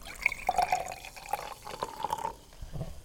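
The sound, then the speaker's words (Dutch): Sparkling water made with a home soda maker is poured into a glass, a steady gurgling stream with bright ringing tones lasting a few seconds, then tapering off. No one speaks. “En dan heb je ineens een glaasje bubbels voor je neus staan.”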